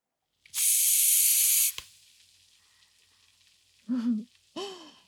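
A loud burst of foam sprayed from a can for about a second as more foam is added to clean a very dirty side, then a soft, steady fizzing crackle of bubbles, interrupted near the end by two brief vocal murmurs.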